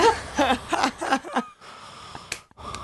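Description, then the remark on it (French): A voice mimics heavy breathing with a quick run of loud, rhythmic, raspy pants, then trails off into a quieter hiss broken by a couple of short sharp breaths. “Mais premier degré, je me dis, c'est lui, il se branle sur moi, il fait les bruits de respiration.”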